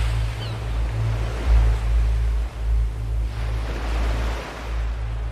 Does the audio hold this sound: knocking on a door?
no